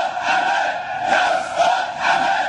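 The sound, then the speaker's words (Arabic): Thousands of mourners in a funeral procession through the streets of al-Diyah village chant loudly in unison, a dense wall of voices rising and falling in rhythmic surges of slogans calling for retribution against the killers of al-Jaziri. “موكب التشييع جاب شوارع قرية الدية وتقدمه عدد من علماء الدين وممثلو قوى المعارضة بمشاركة آلاف المواطنين وسط هتافات داعية للاقتصاص من قتلة الجزيري.”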